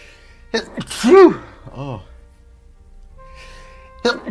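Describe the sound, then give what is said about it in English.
A single loud sneeze with a sharp breathy intake leading into a voiced "achoo" burst, then a short trailing vocal sound and a soft sniff near the end. “I just had a sneeze.”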